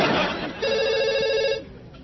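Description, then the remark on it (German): A telephone in an office rings once on a second line, a steady buzzing trill with a bright, harmonically rich tone lasting about a second, following a brief burst of muffled noise. “Es klingelt auf deiner anderen Leitung.”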